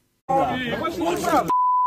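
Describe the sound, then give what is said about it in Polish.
A man in a crowd shouts loudly at a politician, 'Oddaj immunitet i chodź tu' (give up your immunity and come here), for about a second, then a steady, pure, high-pitched censorship bleep covers a word and holds unchanged until the end. From a Super Express video. “Tu słowo wypikane.”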